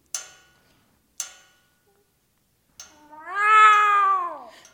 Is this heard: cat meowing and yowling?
yes